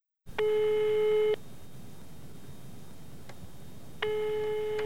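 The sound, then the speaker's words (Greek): A steady electronic telephone tone sounds for about a second, falls silent over a low line hiss, then starts again; a clear ringback-style beep pattern with no voices, as a call is placed from a room at the Frankfurter Hof hotel. “Ζήτησα να μου στείλουν ένα μπουκάλι τζιν και τηλεφώνησα στο σύνδεσμό μου.”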